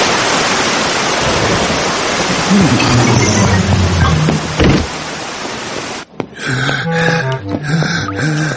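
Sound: sudden heavy rain downpour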